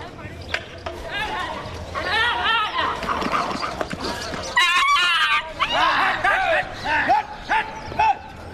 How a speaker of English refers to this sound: That was intense. The dog just attacked the cow while it was lying down.